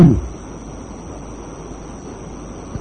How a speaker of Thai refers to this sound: ฝนตกมั้ง